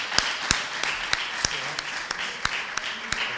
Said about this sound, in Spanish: Así que a mí me gustaría que vinieran aquí los premiados, darle un caluroso aplauso y que vengan a recoger su premio, su merecedor premio. Así que, por favor, un aplauso.